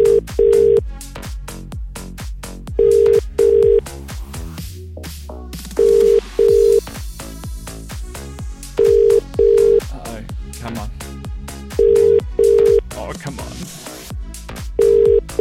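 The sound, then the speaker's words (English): A telephone ringback tone sounds in paired beeps roughly every three seconds, repeating steadily over a busy, rhythmic music bed with no one talking, as a phone call is placed to this week's winner. “Let's get her on the phone.”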